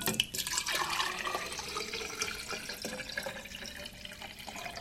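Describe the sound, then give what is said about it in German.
Lukewarm tap water runs steadily into a vase for roses, a continuous splashing hiss with faint shifting gurgles as it fills, no voices. “Füllen wir doch da ganz schnell mal ein bisschen Wasser ein.”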